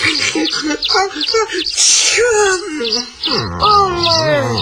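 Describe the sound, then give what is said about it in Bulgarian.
A single sharp, breathy sneeze, caused by savory spice, bursts out in the middle of drawn-out, whiny voiced sounds, with a moaning, sing-song voice continuing before and after it. “Раз, от чубрицата кихам.”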